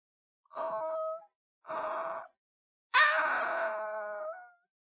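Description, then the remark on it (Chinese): A wolf pup, caught by its left hind leg in a leg-hold trap in a forest beside a giant old tree, whimpers in three high, whining cries: two short ones, then a longer cry that starts sharply and trails off. No one speaks. “那一天，小红帽在森林里做保育调查，路过一棵神木旁，听到微弱的呜呜声。”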